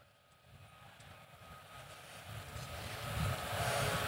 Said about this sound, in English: And he was in my back seat today, and he shared a video when we got back on the ground of us flying in the airplane.